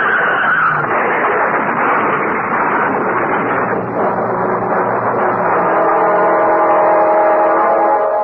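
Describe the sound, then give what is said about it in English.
A car skids on a hail-covered, icy road in midsummer in Rosemont, with a loud, sustained rush of road noise that turns into a steady, whining tire squeal near the end, continuous for several seconds with no talking. “the car ahead. It's skidding.”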